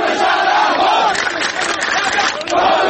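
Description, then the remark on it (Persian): A loud protest crowd in Khuzestan, Iran, chants slogans over the transfer of a river's water, many voices shouting together in a steady, rhythmic roar that swells and dips slightly before rising again at the end. “بخش هایی از این اعتراض ها و شعارها در شبکه های مجازی منتشر شد و عواقب اجتماعی انتقال آب یک رودخانه که خوزستانی ها از آن خود می دانند تازه مطرح شد.”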